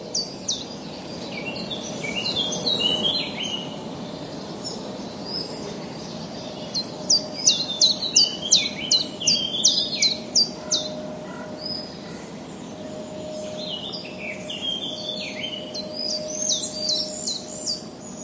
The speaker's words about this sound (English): The sensitive microphones do not only record birds singing, but also other sounds of nature, such as the rustling of leaves in the breeze, the buzzing of flies and mosquitoes, the sound of animals moving in the undergrowth